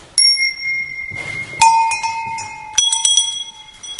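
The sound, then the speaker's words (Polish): Several small collectible bells are rung one after another to try them out, each bright metallic strike ringing out and lingering before the next, with clear overlapping tones and no talking. “Można sobie tutaj nawet wypróbować kilka z dzwonków, które mamy.”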